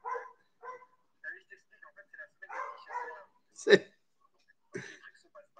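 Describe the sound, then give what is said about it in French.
A dog next door barks a few times in short, sharp bursts, with quieter yelps and mumbled voice-like sounds scattered around them, moderately loud. “Non, ça vient de commencer chez moi. Ils ont dû entendre les aboiements de la porte blanche.”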